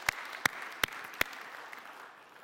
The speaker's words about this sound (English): Come on, we're going to clap.